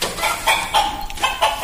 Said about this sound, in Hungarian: Tyúk. Nagyon jó.